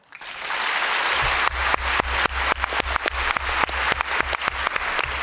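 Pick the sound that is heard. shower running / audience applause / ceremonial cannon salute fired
audience applause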